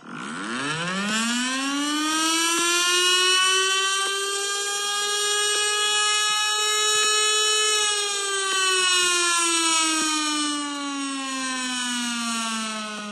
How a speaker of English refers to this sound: I mean, it's a siren, right? Yeah, tornado siren. Of course, it's a siren. Is it a tornado siren?